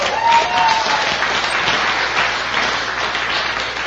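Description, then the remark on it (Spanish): Steady applause from an audience, a dense wash of many hands clapping at constant loudness for several seconds, with a faint whistle rising briefly near the start. “Por favor, un aplauso”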